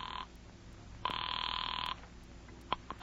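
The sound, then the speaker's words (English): A telephone bell rings loudly in a bright, buzzing trill as newsmen call their papers with a plane-crash story: the tail of one ring, a pause, then a full ring lasting about a second, followed by a few faint clicks. No one speaks. “Firefighters quickly blocked the area, but the newsmen got through, got the story, and called their papers.”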